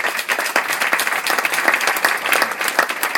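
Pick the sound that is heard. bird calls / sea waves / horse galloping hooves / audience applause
audience applause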